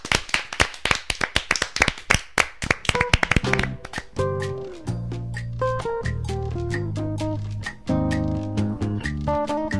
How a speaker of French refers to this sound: Donc un tonnerre d'applaudissements pour ta chronique remplie de zéro et pour cette lettre d'information.